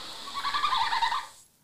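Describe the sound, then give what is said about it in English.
A high, rapid twittering mating call with whistly, warbling tones, steady for over a second before cutting off into silence. “A twittering, a tweeting, and a whistling.”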